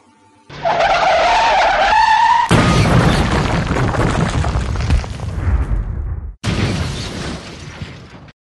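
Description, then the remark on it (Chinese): Tires screech in a long, loud skid, then a heavy crash of impact and crunching debris, followed after a brief gap by another burst of clattering wreckage, depicting a major traffic accident involving a bus. No one speaks. “10年前，他遇到一场重大车祸。”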